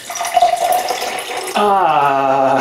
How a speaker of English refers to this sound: Then let's do the Kangen water, 11.5. We're gonna drain this one out.